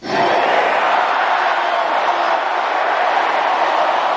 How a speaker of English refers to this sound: Dodger manager Dave Roberts took a microphone to the mound, surrounded by all his players. He exhorted the crowd of 50,000 people to shout those five words.